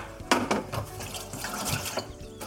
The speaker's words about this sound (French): Alors, je mets ma farce de côté, je lave ma planche, je lave ma poêle. Je vous laisse faire votre petit coup de propre.